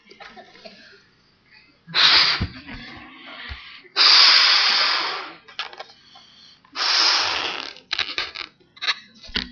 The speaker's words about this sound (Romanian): Ce obiect vă vine în minte atunci când au zis că dragostea nu se umflă de mândrie? Un balon. Un balon care se umflă. Ia să vedem.